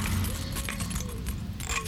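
Metallic jingling of keys with scratchy scraping clicks, as a key fumbles against and slides into a car lock while someone tries to open the car, over a low steady background rumble.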